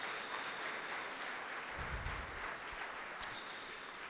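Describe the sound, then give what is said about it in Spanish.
A church audience applauds in glory to the Lord, a dense wash of many hands clapping at once that holds evenly throughout, with a single sharper knock near the end. “Un aplauso de gloria al Señor.”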